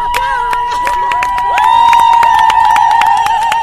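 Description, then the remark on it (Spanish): A crowd of women at a protest against gender violence claps in quick, uneven bursts while voices cheer and chant over a sustained high whistle-like tone, the whole din swelling louder about halfway through. “¡Aplaudan, aplaudan, no dejen de aplaudir!”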